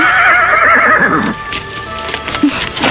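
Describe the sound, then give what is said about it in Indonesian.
A horse whinnies loudly, a shrill, quavering neigh that trails off, followed by soft hoof clops and shuffling. No one speaks. “Tapi bagaimana dengan kuda?”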